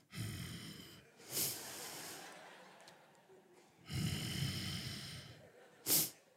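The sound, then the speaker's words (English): A voice imitates heavy, raspy breathing heard over a phone call: long, rough exhales alternating with sharp, hissy inhales, repeated in slow cycles with brief quiet pauses between them. “I answered and I said hello, and the only thing I heard was this breathing.”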